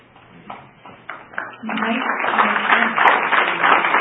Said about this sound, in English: We've had now applause twice. Applause is very energetic. It certainly can get people worked up also.